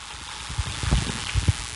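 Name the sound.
applause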